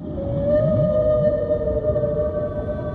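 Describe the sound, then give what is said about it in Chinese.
A whale song: a long, steady, eerie tone drawn out over several seconds, with lower groaning swoops rising and falling beneath it, full, with no voices. “每当金歌响起，我们都有一种被大自然包裹的感觉。友好的虎鲸，聪明的海豚，潜入深海的抹香鲸”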